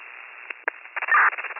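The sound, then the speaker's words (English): Crackling radio static on an empty transmission, a narrow, tinny hiss broken by a few sharp pops and bursts, swelling into a louder rush of noise before settling back. No voice comes through. “Keep getting transmissions with this as the identifier, it's all static.”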